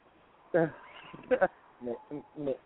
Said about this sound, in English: There's some sheep in the background.